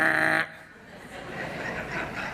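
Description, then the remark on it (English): A raven gives a single loud, harsh, nasal call lasting under half a second, followed by a stretch of softer, rough background noise. “So that's a raven.”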